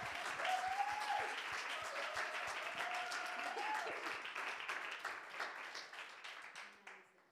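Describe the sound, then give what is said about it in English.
An audience applauds people as they go back and take their seats, with dense, steady clapping that holds strong for several seconds, then gradually thins and fades out, with a few faint tonal sounds underneath. “Hey, why not give these guys a round of applause as they just go back and take their seats?”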